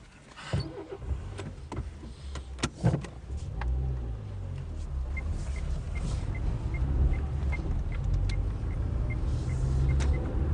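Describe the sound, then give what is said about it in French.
A large farm machine crossing a road in a vineyard, about to spray, on a windy day: its diesel engine rumbles steadily, with a few clanks and thumps early on, then a regular series of short, high warning beeps over the drone. “Il y a un gros engin là devant nous, justement, qui est en train de traverser la route.”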